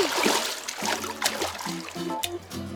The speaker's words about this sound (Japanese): 流れるプールに飛び込んだりしたら。